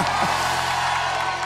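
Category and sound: crowd, applause and cheering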